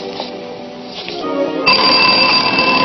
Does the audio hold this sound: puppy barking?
no